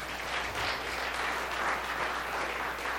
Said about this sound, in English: So I actually got on my knees that evening and asked Jesus if he would please come into my heart and direct my life. Can we clap for that?